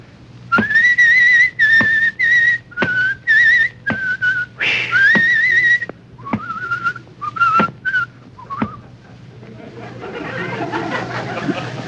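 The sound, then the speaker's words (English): Someone whistles a cheerful, bouncy tune while going down cellar steps, with short lilting phrases broken by tiny gaps. Near the end it gives way to a soft, rustling hiss. “you go down the cellar steps whistling very gaily.”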